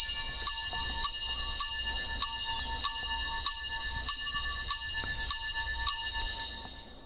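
bell ringing

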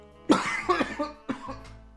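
person coughing

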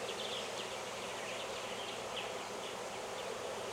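honeybees buzzing

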